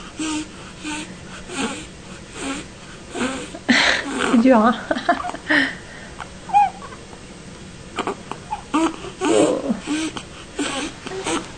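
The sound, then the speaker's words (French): A baby girl breathes in labored, wheezy, squeaky snatches while drinking from a bottle, with little whimpering sounds mixed in and an adult speaking softly over it. “C'est l'heure du biberon. Se souffle un peu en buvant. Pour ça, elle a cette respiration-là.”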